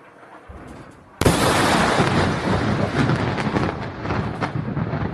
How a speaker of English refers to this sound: And let's take a look at this explosion.